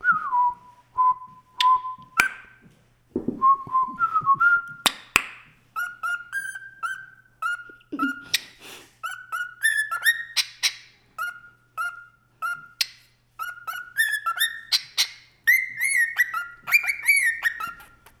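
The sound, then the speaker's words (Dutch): Bucky, a pet bird, whistles a long melodic tune, clear piping notes in short rising and falling phrases with brief pauses between them, no talking. “We gaan Buck terug in zijn kooi steken, want hij stopt niet met fluiten als we er hem niet terug in steken.”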